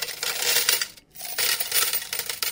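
Metal coins jingle and clatter as they are poured and dropped, a bright, close-up cascade of clinking with a brief pause in the middle before more coins tumble down.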